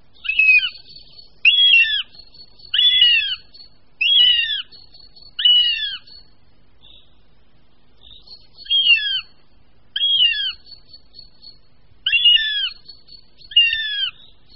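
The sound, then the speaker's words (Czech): Hungry young northern goshawks give piercing, high begging calls, repeated in a steady series of about nine loud, drawn-out cries with short pauses between, heard alone. “což je doprovázeno hlasitým žadoněním mladých jestřábů a v tuto dobu je jestřábí rodina v přírodě nejnápadnější, což bude každému jistě zřejmé, poslechneme-li si pronikavé hlasy hladových mladých jestřábů.”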